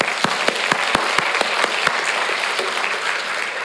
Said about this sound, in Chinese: 真的是你们真的很棒，为你们鼓掌。